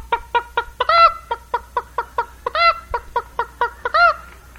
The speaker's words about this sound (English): And there's that old hen, boy, she's strutting around. Just come out of the hen house, she's so proud to have laid that egg.